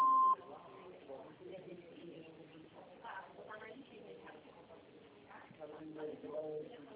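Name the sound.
answering machine beep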